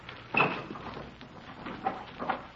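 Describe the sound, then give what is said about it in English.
A wooden dresser drawer full of dirty T-shirts slides open with a scraping rumble during a search of a rented room, followed by a few softer knocks and rattles as it settles, moderately loud. “You want to check the dresser, I'll get the trunk.”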